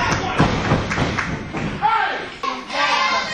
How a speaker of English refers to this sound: There's a bit of a drop kick, and there's a better one. And now stomps Erickson's feet. Here comes LT off the ropes. And drop kick number three.